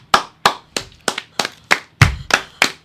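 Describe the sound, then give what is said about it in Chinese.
About ten crisp hand claps from a single person at a steady, even pace, fairly loud, imitating FIFA member nations applauding on a Zoom call to approve Saudi Arabia as host of the 2034 World Cup. No talking. “咁你見到我格仔入面有好多格咧，就喺度咁樣拍緊手。”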